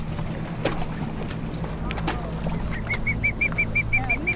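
A bird being rescued with a net from a boat gives a few high squawks, then a steady, rapid series of short repeated calls over the constant low rumble of the boat engine.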